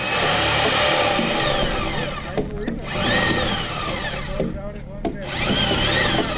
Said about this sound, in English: They are drilling holes into the first round of logs that will be fastened to the concrete foundation.